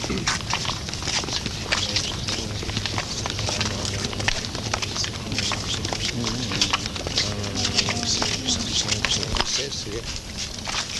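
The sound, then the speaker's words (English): Small waves lap steadily against the water of a pond for sailing model boats, an irregular stream of soft slaps and splashes over a constant outdoor wash, with faint voices murmuring in the background. “It's just the water moving, little waves itself.”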